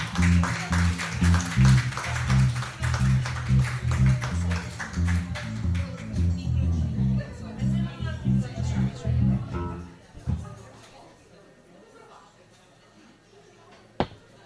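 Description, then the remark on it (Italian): Dense audience applause at a live band concert rattles over the band's steady, rhythmic low musical backing for about ten seconds, then thins out into quiet murmur, ending with one sharp click. “Se fate un applauso, questi.”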